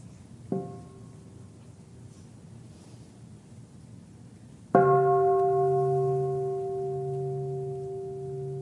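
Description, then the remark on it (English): A mindfulness bell is struck twice before a child asks a question: a soft, short tap, then a full, loud strike whose rich, steady tones ring on and slowly fade over a hiss of background noise. “Remember to breathe with the bell before you ask the question.”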